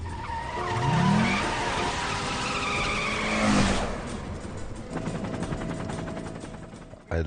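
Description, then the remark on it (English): A car chase filmed on a section of highway: engines roar as tires screech in long, rising squeals, a loud burst hits midway, then a rapid rattling rhythm continues before ending abruptly. “I really got to applaud the way the editing seamlessly puts, because obviously we were not in the car when that chase was being filmed, and it just really fantastic.”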